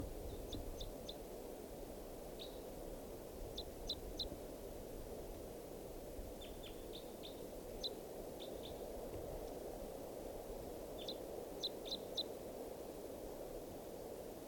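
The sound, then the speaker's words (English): A male wild bird sings short phrases of thin, high chirps in quick bursts of two to four notes, repeated every second or two over a steady, low background rumble, recorded at 7:36 p.m. “Song phrase.”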